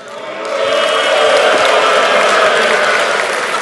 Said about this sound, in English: Some of you are booing, some of you are clapping. Make up your minds.